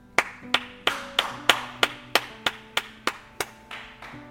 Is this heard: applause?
yes